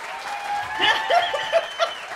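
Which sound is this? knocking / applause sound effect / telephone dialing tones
applause sound effect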